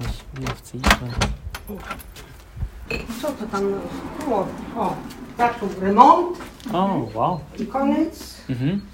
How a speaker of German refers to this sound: Also holt sie den Schlüssel und schließt die Tür auf.